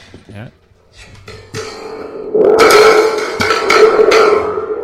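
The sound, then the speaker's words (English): A thunder stick toy gives off a loud, sustained metallic rumble with a shimmering, ringing tone, starting about halfway in after a few softer taps and murmurs. “It's Grandma's Thunderstick.”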